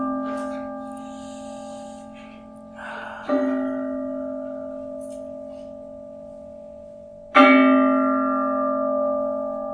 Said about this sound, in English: Sound of the bell. It's called the bell of mindfulness for a reason.